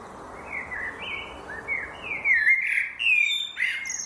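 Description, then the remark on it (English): Outdoor ambience at the Dalbusch Miners Settlement, former Dalbusch Colliery, Gelsenkirchen, with an unpaved road, high-voltage pylon and old miners' houses, on Monday, May 24th, 2021, 10:22 a.m.: birds chirping and trilling over a soft, steady hum, the calls growing busier and layered toward the end, no voices. “Unpaved road, high voltage pylon, old miners' houses. Recording.”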